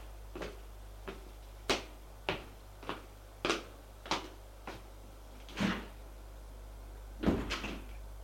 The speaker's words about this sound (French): Les deux garçons entrent dans l'allée. Et ils vont prendre l'ascenseur.